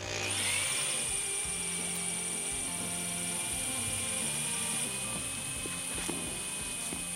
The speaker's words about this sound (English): He pulls out a drill.